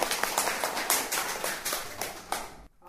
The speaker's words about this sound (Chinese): 来，大家鼓掌欢迎。